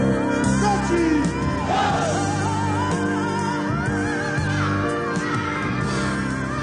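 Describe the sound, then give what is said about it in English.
A child yells loudly and almost continuously for several seconds in the back seat of a car, shrill rising and falling cries set against a dense, noisy background with other commotion. “Kid yelling in the back seat of a car.”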